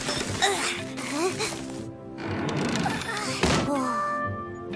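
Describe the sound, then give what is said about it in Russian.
A large, heavy door thuds and creaks open with a couple of dull knocks, while voices talk over it throughout. “Какая большая дверь!”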